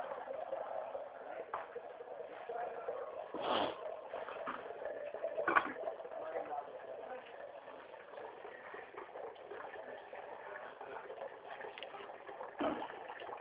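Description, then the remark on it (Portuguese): A steady, muffled rush of water being run and set to heat for coffee, with a few sharp clunks of a kettle or pot being handled along the way. No one speaks. “Fica aí, eu tô colocando água pra esquentar, pô.”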